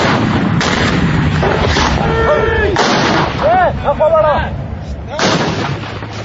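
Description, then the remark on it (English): Two RPG launchers fire at the same time in an ambush from an alleyway between two buildings, their shaped charges detonating on impact: several loud, booming blasts burst out over a constant rumble, with rising and falling whining tones in between, before another heavy blast near the end. “It was the perfect ambush. Both RPG launchers kicked off at the same time.”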